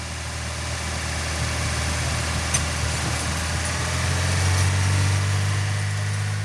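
The heavy diesel engine of an old dump truck idles steadily in a yard in Lagos, Nigeria, while girls crowd around it to learn how to bleed a fuel pipe. It is a deep, even rumble that holds constant, growing slightly louder toward the end, with no voices.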